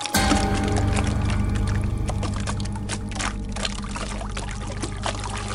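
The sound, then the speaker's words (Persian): Water pours steadily through the holes of a sieve and splatters from a shop's ceiling onto the ground, a continuous rush of trickling and splashing lasting several seconds, with a low steady hum underneath and no voices. “در همین لحظه آبی که در غربال بود از سوراخ غربال رد شده و از سقف دکان به زمین می ریزد.”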